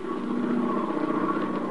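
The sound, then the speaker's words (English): A steady, droning aeroplane engine hums continuously at an even, moderately loud level, with a buzzing tone that neither rises nor fades over the short stretch. No voices are heard. “We bring you now the sound of an aeroplane.”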